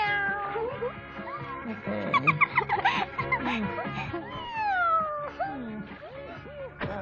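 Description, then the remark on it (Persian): A cat meows repeatedly in drawn-out, rising and falling cries, fairly loud, over a busy layered background with no clear speech. “وای، چه گربه نازی.”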